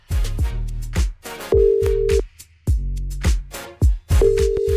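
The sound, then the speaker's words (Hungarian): A phone's ringback tone sounds twice as steady, mid-pitched beeps over a busy, rhythmic musical backing, as a radio request show calls a listener's best friend to pass on a message. “Mert hogy most éppen Rékát hívtam, a barátnőjétől kapta meg a telefonszámát”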